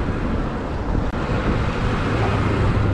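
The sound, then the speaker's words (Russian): Steady, loud rush of wind buffeting the microphone over a continuous roar of ocean surf on the Northern California coast in May, with no voices, broad and unbroken apart from one brief dip. “Океан, друзья, море, океан, цветочки растут, май месяц.”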